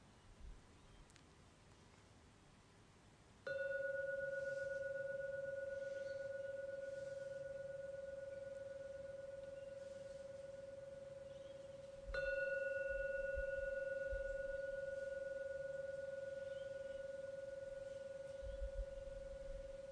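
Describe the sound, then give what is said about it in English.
A meditation gong is struck twice to end a meditation, several seconds apart, each strike blooming into a steady, pure ringing tone that slowly fades. No one speaks. “I am now going to ring the gong 3 times. Please listen to every sound from the gong.”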